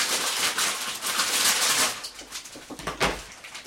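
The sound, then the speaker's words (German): Continuous crinkling and rustling, like plastic or foil being handled, loud at first, then breaking into scattered sharper crackles toward the end. No one speaks. “Moment, ich knistere mal ein bisschen.”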